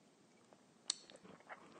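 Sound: sipping coffee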